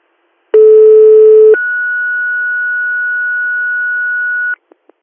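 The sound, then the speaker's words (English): A telephone line tone during an outgoing call to the transfer phone: a brief two-pitch electronic tone, then a single steady, fairly loud beep held for about three seconds, ending with a couple of faint clicks. No one speaks. “Can you call the transfer phone?”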